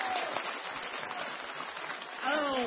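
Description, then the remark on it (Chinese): Steady audience applause fills the whole stretch, a dense wash of many hands clapping at an even level, with a few voices rising and cheering over it near the end. “我想各位该鼓掌了吧。”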